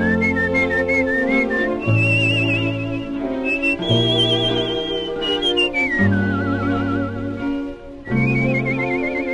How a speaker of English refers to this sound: people in that period were just as likely pretty much to do it by whistling as they were to do it with, like, you know, nonsense, you know, scat syllables.